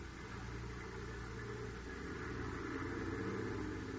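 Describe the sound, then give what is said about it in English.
The engine of a large tarpaulin-covered supply truck rumbles steadily in a prison yard, a low droning idle with a faint vibration and a slight swell in loudness as it begins to pull away through heavy opening gates. No one speaks. “And in the prison yard, a large tarpaulin-covered supply truck moves out as the heavy gates open.”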